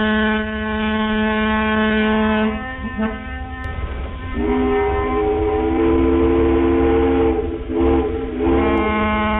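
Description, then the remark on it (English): Loud, sustained ferry boat whistle blasts with rich harmonic tones, one long blast shifting pitch partway, followed by further blasts with brief breaks between them, no voices present. “It wasn't just one ferry whistle.”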